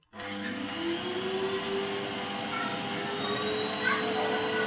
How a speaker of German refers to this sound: Der Staubsauger, richtig.